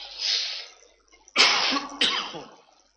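A rough breath is followed by two harsh coughs about half a second apart, each raspy and tapering off, with no talking around them; the cough was picked up while sitting cramped inside an aeroplane.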